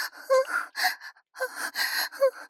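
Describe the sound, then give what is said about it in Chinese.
Heavy panting breaths of a person masturbating follow one another in quick uneven bursts, each a rough, airy gasp, with one brief pause partway through; no talking. “听得见我的喘息声吗？”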